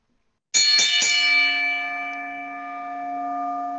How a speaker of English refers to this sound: do me a favor and ring the bell.